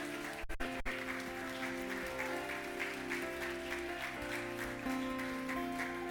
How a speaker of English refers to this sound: Come on, keep clapping. Come on, be bold.